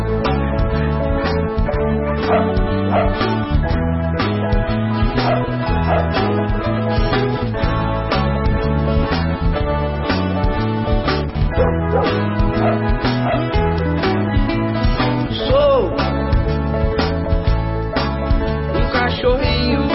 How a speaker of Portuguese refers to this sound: lá vem aqueles cães pulguentos, aquelas pestes, como eu os odeio!